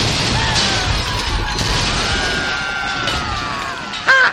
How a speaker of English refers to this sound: Quickly fire a barrage into their port side while they reload. Aye, aye, sir. Fire the cannons! Aye.